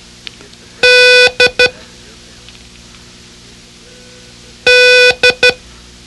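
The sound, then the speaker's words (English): Code signal beeps: a loud, buzzy tone sounds one long beep followed by two quick short ones, and after a pause the same long-short-short pattern repeats, with no voices over a faint hum. “Concentrate on the poor puppy's expression of dismay and repeat, "Dog did it," as I sound the code.”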